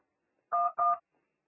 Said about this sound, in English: So once you hear a beep noise, then you straight away start dialing the number. Okay, so here is a cue now.